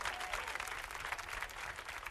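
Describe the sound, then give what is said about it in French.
An audience applauds violinist Sam Proctor steadily, a dense, even wash of many hands clapping at once with no pauses, sustained at a moderate level throughout. “Au violon, notre ami Sam Proctor. Faut l'applaudir très très fort.”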